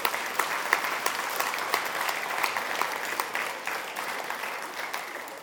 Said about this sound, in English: Now, whether we're going to get a spontaneous one or not, but I'm going to tell you to give yourself a round of applause and give thanks to God for what you've done.